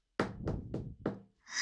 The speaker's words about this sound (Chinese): 此时敲门的声音响起了